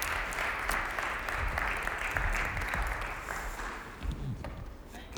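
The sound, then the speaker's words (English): Steady applause from an audience welcoming a speaker to the stage, a dense wash of clapping hands that holds level for several seconds before tapering slightly toward the end. “You can give her a round of applause.”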